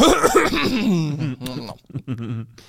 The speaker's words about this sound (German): Wie kann man mit so einem Räusperer starten? Ist gut, oder?